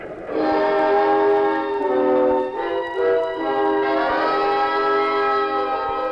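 A loud, sustained train whistle blares for several seconds as a fast-moving train passes, its rich harmonic tone dipping briefly in the middle before resuming, steady with no voices.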